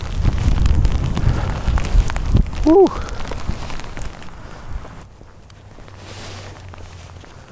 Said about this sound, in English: And I've now got the wind at my face. and the rain blowing at me.